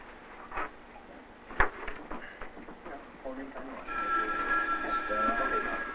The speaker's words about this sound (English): Somebody want to get that phone?